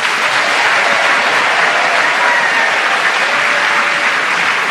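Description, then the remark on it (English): Sustained, loud audience applause at the Mermaid Theatre, Puddle Dock, Blackfriars, welcoming the four panellists of Just a Minute: a dense, steady wash of many hands clapping at once, with no voices rising above it. “Please welcome all four of them.”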